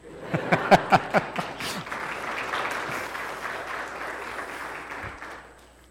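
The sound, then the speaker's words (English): The people at a morning church service break into applause, opening with a few sharp, loud claps before settling into a steady, dense clapping that slowly thins and fades out. “I don't know, should we clap?”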